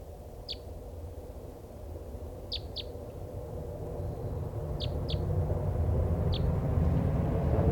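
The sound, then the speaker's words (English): A type three bird, the one still free from a flock of five being caught, gives about six short, high flight calls, some in quick pairs, spaced over several seconds against a steady low rumbling background. “This is the one still free. It sounds like a type three.”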